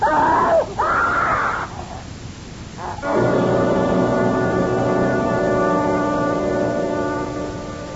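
A woman lets out two loud, shrill screams in quick succession, followed by a brief pause and then a long, steady, droning blare that holds for several seconds.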